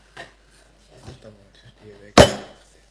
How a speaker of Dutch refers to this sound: Dan is de motie bij deze hamerslag aangenomen.